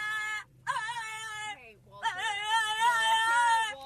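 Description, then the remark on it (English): A dog whimpers in high, wavering whines, three drawn-out bursts with brief gaps, the last one long and rising and falling in pitch, fairly loud and with no talking over it. “That's what that dog sounds like?”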